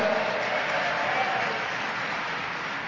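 A steady wash of audience applause, dense overlapping clapping that holds at an even, fairly loud level for a few seconds, with no voices standing out.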